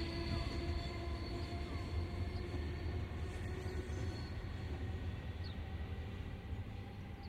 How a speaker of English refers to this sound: As the train heads west out of the station heading for Glasgow.